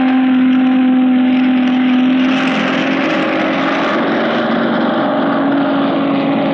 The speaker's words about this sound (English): And now, from the roof of the control tower, some new sounds out of the sky. The sounds of planes which most of you have not had a chance of seeing or hearing. And first, the biggest helicopter in the world, the 24-seater Sierra Air Horse.